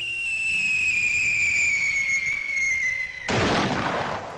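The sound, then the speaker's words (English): A cartoon falling whistle, as when Wile E. Coyote runs off a cliff, glides slowly downward in pitch for about three seconds, then cuts off into a sudden broad crash of noise that rumbles and fades. “When Wile E. Coyote runs off a cliff, he doesn't fall until he looks down.”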